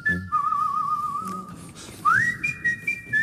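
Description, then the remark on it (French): A person whistles the theme melody of a football film, holding long clear notes with a slight warble, then sliding upward into a higher phrase, with no talking. “Pourtant, elle est sifflée dans le film.”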